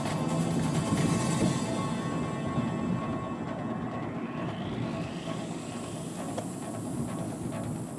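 A small train rolls steadily through an intersection, blocking it, making a continuous rumbling roar with hiss and a thin whine that rises in pitch midway through; no one speaks.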